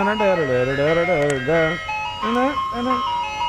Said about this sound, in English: Isn't the song for the ice cream truck racist? I don't know. There's a couple different ones. That's the one I always remember. The one that I was just playing. That's the one I know.